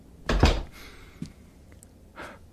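An upstairs door is opened, with a loud knocking clunk, then a faint creak, a small thump and a softer rattle as it swings. No one speaks.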